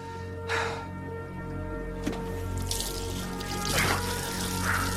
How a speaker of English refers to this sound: He runs the tap in the sink and splashes his face, then wipes the blood off his skin with his hand.